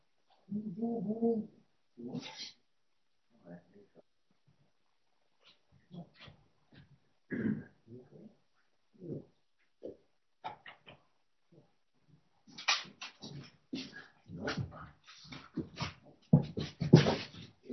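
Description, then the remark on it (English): A dog whimpers and whines in a kitchen in short, scattered bursts, with quiet pauses between, followed by a denser stretch of scuffling, clattering noise toward the end. “Let me go get that dog. We're sending the dogs in the kitchen where it shouldn't be.”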